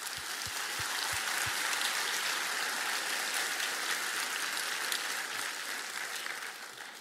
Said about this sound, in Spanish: Alguien diga amén. Un aplauso al Señor para él.